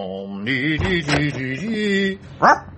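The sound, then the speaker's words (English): A young pink, scabby mongrel puppy sitting on a front step on an autumn morning whines and yelps in drawn-out, wavering cries, ending with one short, sharp bark. “One autumnal morning, as I say, I encountered a pink, scabby mongrel puppy sitting on the front step.”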